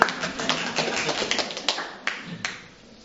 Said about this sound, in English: Round of applause